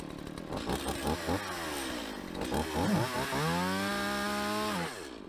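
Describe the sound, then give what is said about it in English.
A chainsaw engine revs and bogs repeatedly against a man's leg covered by chainsaw-resistant pants, its pitch rising and falling with each surge, then holds a steady high whine before cutting off abruptly. Loud, with no voices. “He is letting somebody chainsaw his leg off.”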